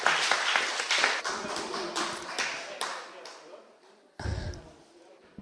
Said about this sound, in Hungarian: Viszont igen, tapsot kérünk, így van. Köszönjük.